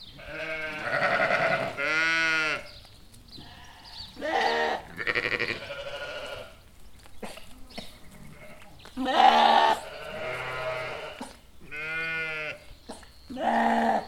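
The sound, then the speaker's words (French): Several hungry goats bleat loudly in a series of wavering, drawn-out calls, overlapping at times, with short pauses between bursts. “Oui, le bruit des chèvres quand elles ont faim.”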